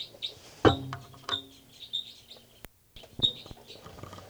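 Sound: bird calls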